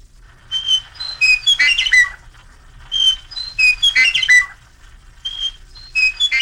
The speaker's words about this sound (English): First, the big meadowlark with its yellow breast and black V and short tail, not a member of the sparrow family, but a very melodious singer which is common in the summertime and particularly in June.